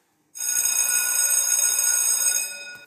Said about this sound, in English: School bell rings.